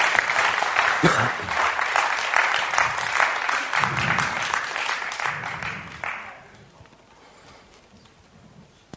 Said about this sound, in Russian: Подари Богу аплодисменты.